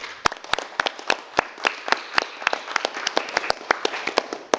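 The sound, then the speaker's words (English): People at the close of a meeting applaud to thank the interpreters, with many sharp, irregular claps forming a steady, moderately loud patter that lasts several seconds, with no talking over it. “Please join me in thanking our interpreters.”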